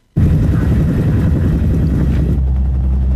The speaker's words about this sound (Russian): опять хочу попросить поставить вот этот отрывочек с вертолетом. Мне кажется, один из самых драматических моментов сериала.